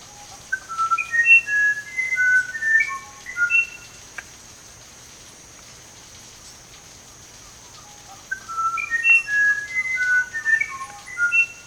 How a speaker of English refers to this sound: What is that? A musician wren, one of the most enchanting birds of South America. This music is utterly beyond anything I could ever perform on my own.